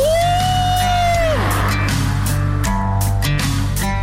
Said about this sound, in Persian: چه تونلی، چه هوایی، جیغو بزن ماشاءالله.